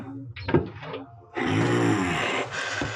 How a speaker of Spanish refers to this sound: ¡Acaba de cerrar esa puerta de una vez!